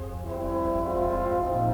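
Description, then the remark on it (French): A car horn blares in one long, steady, loud honk, with no break and no voices around it. “Le klaxon n'est pas un jeu.”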